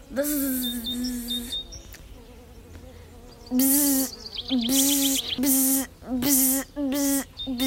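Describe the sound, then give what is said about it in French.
A loud bee buzz drones steadily for a second or so, then returns after a pause as a string of short, pulsing buzzy bursts with brief gaps between them. “Pourquoi y a-t-il de moins en moins d'abeilles ? Zzzz”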